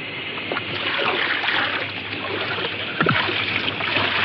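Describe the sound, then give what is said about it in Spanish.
Water splashing and sloshing continuously, with occasional stronger splashes as if scooped and tossed, as two people bail water out of a boat moored at a riverbank after coming through rapids, over a steady watery rush; no voices. “Ambos se ponen a achicar el agua del barco.”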